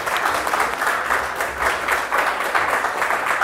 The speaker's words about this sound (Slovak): Dobre, super, zvládol si to. Zatleskáme.